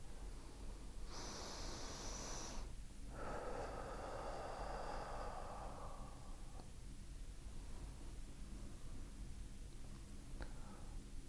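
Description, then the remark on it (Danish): A sharp inhale through the nose lasting about two seconds, drawn deep through the lungs into the belly, then after a brief pause a long, slow breath out through the mouth that gradually fades, during a guided breathing exercise; clear with no talking. “Træk vejret ind igennem næsen, helt ned igennem lungerne, ned i maven og pust langsomt ud igennem din mund.”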